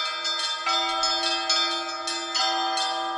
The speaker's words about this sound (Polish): Możemy głosić światu, że Chrystus zmartwychwstał, dzwoniąc we wszystkie dzwony. Możemy wejść na dzwonnicę i każdy chętny może podzwonić dzwonami, żeby się radować i żeby inni słyszeli tą radość.